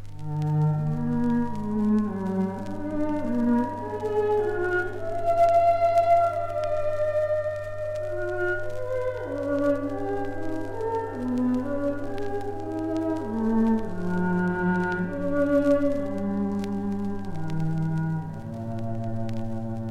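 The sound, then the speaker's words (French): An electronic instrument played through a loudspeaker called the Palm plays a slow, gliding melody over a steady low drone, its tones bending smoothly between pitches with a shimmering, ringing halo. No voices, sustained and even in loudness throughout. “L'utilisation du haut-parleur nommé Palm donne à l'instrument une sonorité particulièrement irréelle qui crée un halo sonore.”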